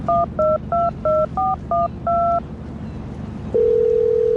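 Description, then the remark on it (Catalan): Seven quick two-note keypad beeps as a phone number is dialed with trembling fingers at the commercial dock of the Port de Palma, the last held a bit longer, then a brief pause before a steady, unbroken dial tone hums to the end, all over a low rumbling background. “Vaig marcar el número d'en Ramon amb els dits tremolosos.”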